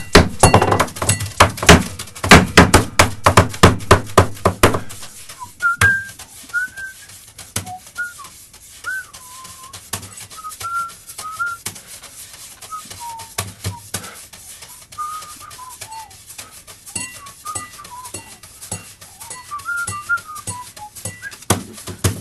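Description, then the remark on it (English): Rapid, loud drumming by drummer Han Benning on a studio table with bright clinks from a glass, then lighter, sparser taps and clinks continuing under a wavering whistled melody. “And that's drummer Han Benning playing our studio table and a glass.”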